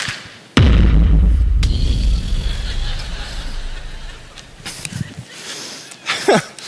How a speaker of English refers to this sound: I folded up my paper popper, right? I look around. Everybody's head is down at the desk. And I know you don't think it sounds real loud, but just imagine a quiet room. I look around. I get my popper just right. And I go, one, two, three.